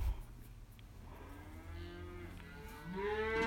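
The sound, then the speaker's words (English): Cows moo in long, drawn-out calls, one overlapping another, with a steady low rumble underneath; the lowing swells louder toward the end and no one speaks. “They are definitely doing something with cows.”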